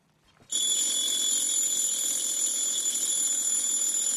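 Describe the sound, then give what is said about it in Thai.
A loud, continuous mechanical alarm clock bell starts abruptly after a brief quiet moment and rings steadily, a harsh metallic clatter with no pause, alone. “แต่เชื่อว่าหลายคนน่าจะเกิดและเติบโตมากับเสียงนาฬิกาปลุกที่คุ้นๆกันในลักษณะนี้นะคะ”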